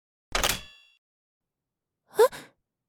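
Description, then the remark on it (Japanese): A door lock is turned: a short, fairly close mechanical clunk, then after a pause a second quick metallic click-and-scrape, with quiet in between and no voices. “え、なんで鍵閉めたの？”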